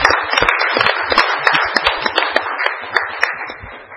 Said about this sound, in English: Now can we give our councillors a big round of applause?